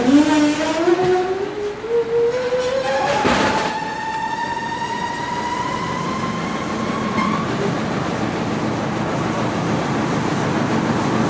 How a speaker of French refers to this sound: C'est quand on a un peu le spleen du métro, tu comprends, là, on vient là et on entend le bruit du métro.